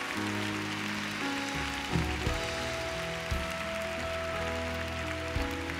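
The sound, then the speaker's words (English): A church audience gives the Lord a big clap, clapping steadily for several seconds, a dense, even wash of hand claps layered over sustained musical tones, with no voices breaking through. “Let's just give the Lord a big clap.”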